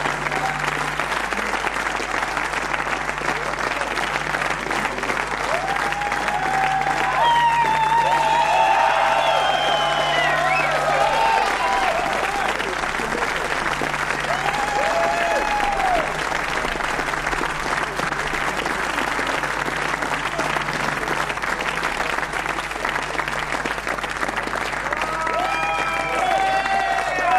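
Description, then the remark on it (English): Sustained audience applause at a Black Session concert at Studio 105 as a band is welcomed onto the stage, a dense steady wash of clapping hands lasting the whole stretch, with scattered whistles and faint cheers rising above it at moments. “Que vous pouvez applaudir, s'il vous plaît.”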